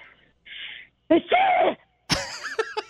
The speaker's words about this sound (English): I'm telling you, I know what you're talking about because I startle the hell out of people. I don't hold back with sneezes. Yeah, it doesn't matter if, like, I have a sleeping baby in my arms.